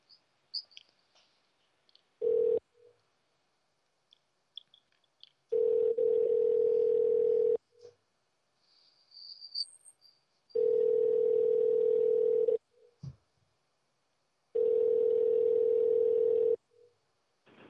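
A telephone line tone, as a call is placed during a radio show, sounds in steady, buzzing bursts: one short blip, then three longer tones of about two seconds each, separated by quiet gaps with faint clicks. No one speaks.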